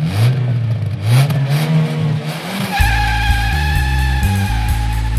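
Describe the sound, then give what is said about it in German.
A car engine revs hard with rising, sweeping pitch, then holds a loud, steady roar as the vehicle drives fast; no voices are present. “Kein Gedanke, nur der Motor, die Straße, die Lichter.”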